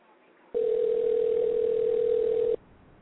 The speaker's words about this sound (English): You got to be kidding me. You can't answer your phone?